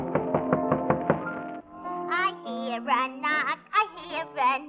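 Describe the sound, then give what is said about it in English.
A quick, evenly spaced run of about seven knocks on a door over sustained musical tones, then a voice begins singing with wavering vibrato. “He knocks on the door.”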